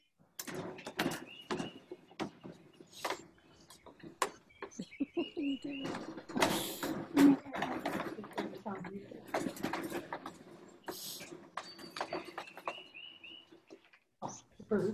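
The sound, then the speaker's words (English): Birds chirp faintly outdoors in short, scattered bursts, mixed with frequent clicks and knocks, while indistinct voices murmur in the background. “Do you hear the birds out there? Yeah, I hear the birds.”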